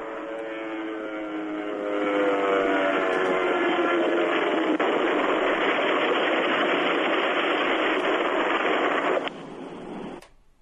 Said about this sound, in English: What? What was that? That was the guy that called from a plane, and I think it crashed. Yeah, it sounded like it crashed.